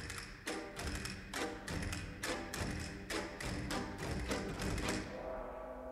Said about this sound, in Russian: Кастаньеты и гонг.